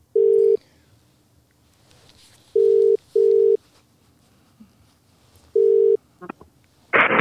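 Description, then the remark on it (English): A telephone ringing tone on the line: low, steady electronic purrs in paired bursts separated by pauses, heard alone, then a few clicks and a rush of noise as the line picks up. “This is it ringing.”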